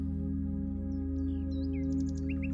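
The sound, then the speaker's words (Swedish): Several small birds chirp and tweet in quick, high-pitched bursts, fairly faint, over a steady low humming drone that runs throughout. “Fåglarna kvittrar och fjärilarna dansar från blomma till blomma.”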